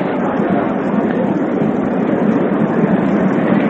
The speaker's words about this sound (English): The applause there is for the catch by the spectator.